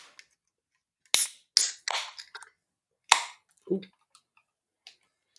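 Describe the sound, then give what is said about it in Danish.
Sharp metallic clicks and cracks from a blue can of 5.4% beer being opened, followed by a brief fizzing hiss and a few faint ticks, with no talking. “Det er blå, og den er på dåse. Og 5,4%. Skal vi åbne den?”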